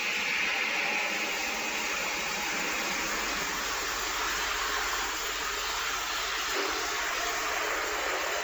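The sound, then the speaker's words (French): A fire sprinkler, set off by cigarette smoke, sprays water down onto a man in a steady, unbroken hiss, a dense rushing wash that stays loud and even for the whole stretch, with no voices. “La fumée est aussitôt détectée et un rideau de pluie s'abat sur le médecin qui arrondit les yeux, hébété.”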